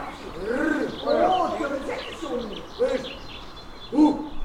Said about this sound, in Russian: Но, несмотря на все это, мы любим голоса птиц, записываем их и выкладываем.